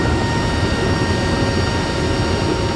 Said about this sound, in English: And you can probably imagine a cargo plane, right? There are two doors below the tail. One of them folds down and the other up. These are giant doors. These are things that vehicles can drive up. And it gets even louder when the doors open.